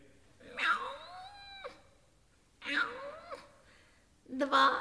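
A cat meows three times in close succession, each cry drawn out and wavering, the last cut short at the end; the calls are fairly loud.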